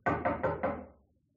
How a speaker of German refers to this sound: Es klopft an seiner Wohnungstür.